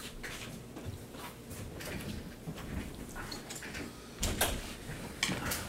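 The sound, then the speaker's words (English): A door is opened and held during a meeting, with soft rattles and a couple of sharper knocks near the end over steady background noise. The sounds are fairly quiet and no one speaks. “Holding the door.”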